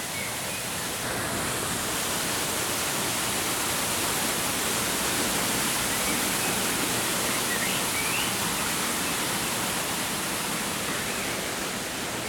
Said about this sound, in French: c'est quelque chose qui va se rapprocher le plus possible d'un bruit blanc, donc qui est le bruit qui regroupe un peu toutes les fréquences